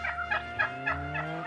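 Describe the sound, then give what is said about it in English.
A turkey gobbles in a rapid, bubbling series of warbling calls, clear over a steady low background hum, with no one speaking. “The turkey just stole my car.”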